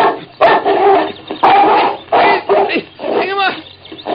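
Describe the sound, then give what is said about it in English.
A dog named King barks and snarls aggressively, loud rough bursts coming in quick succession, about five or six in a few seconds, with growly tones between them. “He flung the stick, and the dog leaped after it.”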